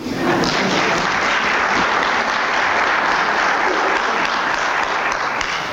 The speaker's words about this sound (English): Thank you very much, sir. You guys can applaud.